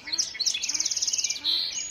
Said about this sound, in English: The marsh is now alive with the splashing of Virginia rails and dawn chorus of the song sparrows, common yellowthroats, American robins, and red-winged blackbirds.